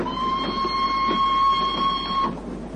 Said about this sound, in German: 10 Minuten später hören wir nur noch ein gleichmäßiges Schnarchen und das Rollen der Räder.